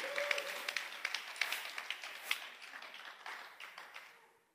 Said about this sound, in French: Dieu, c'est lui qui dit, applaudissez Dieu, c'est lui.